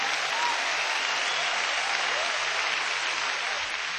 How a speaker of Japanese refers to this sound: 熱い拍手が続いています。インストルメンタルの演奏なので総立ちというわけではないんですが、客席に座っている人たちの熱い気持ちがこの拍手に感じられます。